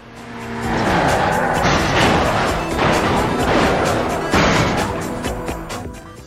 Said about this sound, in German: Und dann plötzlich kommt ein anderes Auto, wie aus dem Nichts, und es macht BAM!